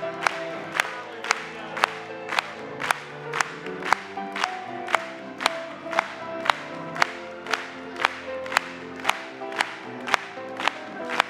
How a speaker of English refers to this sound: Let's clap it to him. Glory.